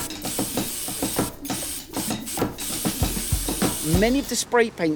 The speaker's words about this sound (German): Eine Schablone an die Wand kleben, das allein ist noch nicht illegal. Aber das, was er dann macht, schon. Er sprayt über die Schablone. Erstmal mit Schwarz.